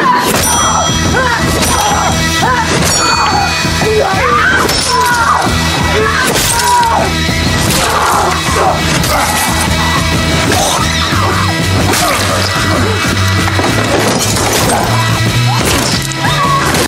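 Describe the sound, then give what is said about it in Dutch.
Loud, violent smashing blows repeat in a steady pounding rhythm as a young girl's head is bashed against a fireplace mantel, mixed with yelling and a dense, droning background. “En dan die ene, ja, het ene meisje eigenlijk, die gaat hij dan overwinnen door haar met haar hoofd op die mantel van die schoorsteenmantel helemaal kapot te smashen.”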